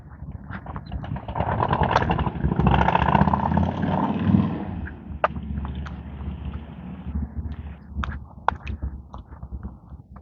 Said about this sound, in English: Yes, indeed, a motorcycle.